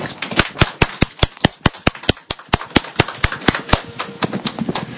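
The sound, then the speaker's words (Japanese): An audience at a Christmas church service applauds in thanks for the birth of Jesus: sharp, crisp claps at a brisk, fairly steady pace over a softer wash of scattered clapping, continuing throughout with no voices. “イエス様がお生まれになったことをそれぞれ覚えて感謝の拍手をいたしましょう。”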